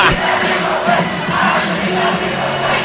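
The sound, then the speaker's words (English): A dense crowd roars and yells continuously, with many voices shouting over one another in a loud, sustained din: the Lower Merion and Pencrest student sections yelling at each other at a basketball game. “Well, they're yelling at each other.”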